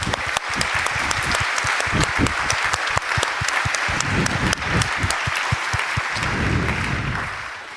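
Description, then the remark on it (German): Sustained audience applause for the technical crew, a dense wash of many hands clapping steadily at a fairly loud level for several seconds before tapering off slightly at the end, with no voices. “Und jetzt kriegt ihr mal einen Applaus.”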